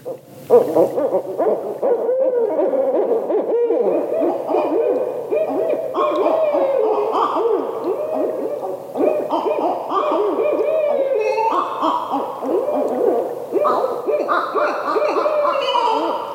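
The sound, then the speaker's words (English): Barred owl hooting fills the whole stretch, loud, a continuous run of rising and falling hoots and cackling calls with no talking over it. “Do you recognize that call? That's a barred owl.”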